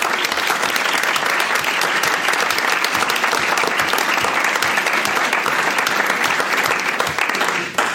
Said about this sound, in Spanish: Así que para empezar, quiero darles un aplauso a todos ustedes.